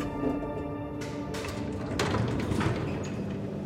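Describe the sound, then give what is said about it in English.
Elevator doors slide open over a steady mechanical hum, with a few soft thuds and a rumbling whoosh partway through; no one speaks. “The elevator doors open, and Welch spots the man he's supposed to meet.”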